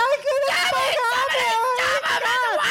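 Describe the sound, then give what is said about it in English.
A voice imitates girls screaming and crying, a high, wavering wail with sobbing pitch swoops that runs continuously and loudly for a few seconds. “Yeah, you have to have some girls screaming and crying.”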